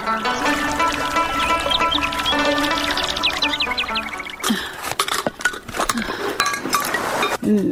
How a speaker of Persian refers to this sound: از این کنج قلا وسایل بیکاره و چوباره دور میکنم. این جای باید بیکار شوه.